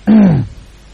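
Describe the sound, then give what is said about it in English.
A single short cat meow, a low, harmonic cry that slides downward in pitch and ends after under half a second, fairly loud with no talking over it. “I can hear a cat.”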